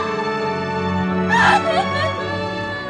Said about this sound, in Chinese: 方子君突然发出撕心裂肺的哭声，跪在地上泣不成声。女兵们围上来试图安慰她，却都是泪流满面。